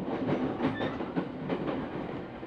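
A crowded commuter train rolls steadily along its rails with a continuous rumbling roar, punctuated by rhythmic clacking of the wheels over track joints and a faint high whine. No one speaks.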